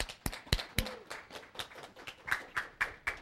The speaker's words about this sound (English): It is my pleasure to welcome her today to Learn at Lunch. Please give her a warm applause to welcome her.